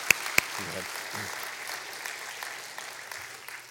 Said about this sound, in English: So thank you guys. I want to honor your guys' just practice in that and bringing that before us as well. So you guys just kind of applaud them. Thanks, guys.